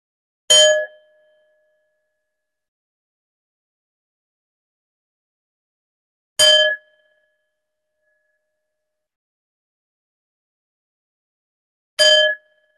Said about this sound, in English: When you hear the bells, you will come out of the meditation and I will move to closing.